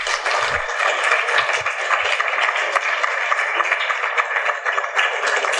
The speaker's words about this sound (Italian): Qui ci sta l'applauso.